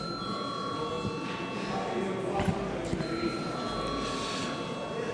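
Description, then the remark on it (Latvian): A parliament chair's bell calling a vote on sending a draft law to a committee rings in a steady, high electric tone, pausing briefly midway before sounding again, over a constant murmur of voices and shuffling. “Lūdzu, zvanu.”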